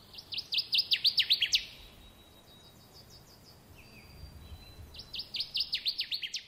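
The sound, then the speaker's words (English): A male Connecticut warbler's loud, ringing song: a rapid run of about ten bright, repeated chirpy notes, a pause, then the phrase again. Clear over faint background hiss, with no talking. “Now, the Department of Natural Resources is making efforts to save a disappearing songbird, the Connecticut warbler. This is the male's call.”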